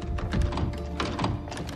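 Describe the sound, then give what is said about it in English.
A locked door being tried in a dim rotunda with many doors: a young woman tries the handle, it rattles, and the door thunks against its frame in a few dull, knocking jolts, with no voices. “She goes to the next door on her left.”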